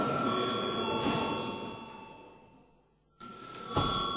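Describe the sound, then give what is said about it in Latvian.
A parliament chamber bell, called for by the chair just before a vote, rings continuously with a steady, bright metallic tone, dipping nearly to silence near the end before sounding again briefly. No one speaks over it. “Lūdzu zvanu.”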